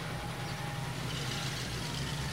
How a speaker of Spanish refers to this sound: Me asomé a la puerta porque un ruido de motores retumbaba por todos lados.